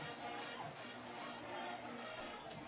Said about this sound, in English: You hear the band over on the other side. We had to raise the windows a little bit to get a little crowd noise in here. A little stuffy when it's just us.